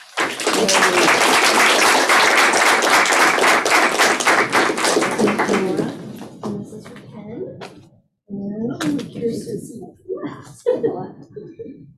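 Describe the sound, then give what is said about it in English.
A crowd bursts into loud, steady applause honoring 25 years of service in the Office of Federal Programs, dense rapid clapping lasting about six seconds, then thinning out as voices begin talking. “And I want to applaud your service.”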